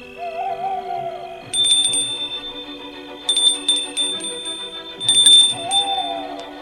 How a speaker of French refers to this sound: Et là, le fiacre entre dans le domaine. Il sonne à la porte du château.